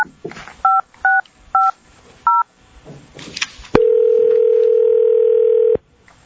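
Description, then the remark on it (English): Four short dual-pitched beeps of telephone keypad dialing, evenly spaced, as a meeting calls a participant by phone, followed by a loud, steady phone tone that holds for about two seconds before cutting off, with faint background noise between the beeps. “Yeah, we were going to keep her on the phone.”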